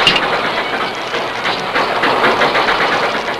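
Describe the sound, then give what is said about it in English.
A steam work engine runs in reverse at full throttle, loud, its rapid rhythmic chuffs and hissing steam pounding steadily throughout with no voices. “He put the work engine in reverse and opened the throttle wide.”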